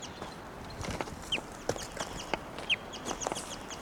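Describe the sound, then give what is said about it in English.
A wild bird named Seven, held in a cage, gives repeated short, high chirping calls at irregular intervals, with sharp clicks and taps scattered among them over a steady low background rustle; no one speaks. “Seven's still calling, the wild bird's still in her cage.”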